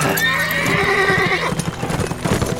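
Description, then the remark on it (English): A dun horse whinnies loudly, its neigh wavering for over a second, then hooves clip-clop in a quick, uneven rhythm on a hard surface. “Isaac motioned for Andrew to get onto his dun horse behind him.”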